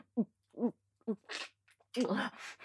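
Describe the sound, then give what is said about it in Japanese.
Heavy, dog-like panting: a few short voiced huffs in a quick rhythm, followed by longer, louder breathy gasps that blend with more vocalized breathing. “息遣いが犬みたいだった。”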